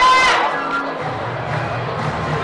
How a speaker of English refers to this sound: Well, the crowd is having a lovely time of it right now.